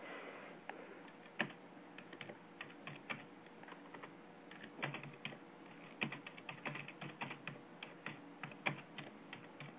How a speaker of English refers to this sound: Yeah, I'm just typing here. Just don't mind me for a sec.